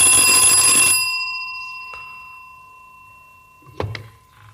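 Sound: telephone ringing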